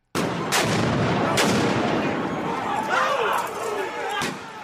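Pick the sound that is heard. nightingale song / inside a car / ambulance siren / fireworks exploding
fireworks exploding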